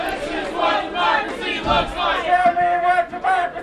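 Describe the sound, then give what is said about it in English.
A large crowd cheers and shouts continuously as a U-Haul truck pulls up to the side of a building near the Capitol, a dense wash of many voices holding steady and loud for the whole stretch, with a few sustained yells rising above the roar near the end. “They cheered when the U-Haul bearing the slogan, "We did it for Wisconsin's future," pulled up to the side of the building.”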